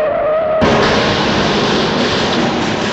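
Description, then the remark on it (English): A short high squeal gives way abruptly to a loud, sustained roar of crashing noise that stays heavy and dense to the end, a car skidding and then smashing in a crash that killed five people, with no voices. “Five people were killed in the crash.”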